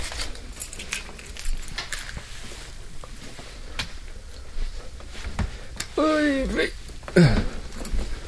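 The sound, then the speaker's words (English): Keys jingle and clink in short, irregular bursts as someone grabs their keys before leaving for work, with scattered metallic taps throughout and a brief voice sound near the end. “Turn off the fan, grab my keys.”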